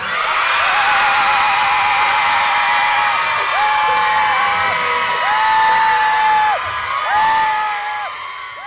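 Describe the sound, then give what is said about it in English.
A large rally crowd screams together, just after 6 p.m., in solidarity with victims of violence by men: a loud, sustained roar, many voices rising and falling in overlapping whoops and yells for several seconds before easing slightly at the end. “But halfway through, just a little after 6 p.m., the crowd stopped and gathered together in an effort to express their solidarity for all those who have been the victims of violence at the hands of men.”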